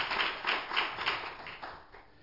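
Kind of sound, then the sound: crowd, audience clapping hands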